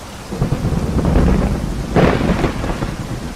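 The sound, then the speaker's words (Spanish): Steady rain pours down while a deep rumble of thunder rolls through, swelling in the middle and fading under the continuing downpour. No voices are heard. “ahora ya no nos mojamos, ¿verdad, María? Él nos ha salvado también de la lluvia”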